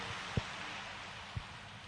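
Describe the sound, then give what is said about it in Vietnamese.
Steady, soft applause from an audience at a Buddhist talk, welcoming a venerable monk to answer a question, a dense patter of many clapping hands that holds evenly throughout, with a couple of dull low thumps underneath and no one speaking. “Xin vị dành tràng pháo tay để lắng nghe sự chia sẻ của Thượng tọa Hoàng Dự.”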